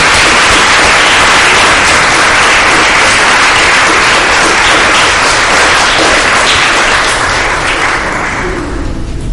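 A crowd applauds loudly and steadily, a dense wash of many hands clapping, continuous for several seconds before tapering off near the end. No one speaks.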